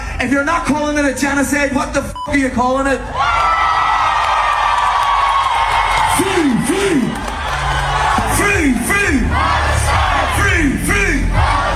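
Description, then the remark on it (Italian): A large festival crowd at Coachella, led by an Irish band, shouts a rhythmic chant in unison, loud and sustained, with rising and falling call-and-response phrases and cheering swelling around it. “come fecero gli irlandesi … tra i primi a unirsi al boicottaggio, che al Coachella dell'anno scorso gridavano così”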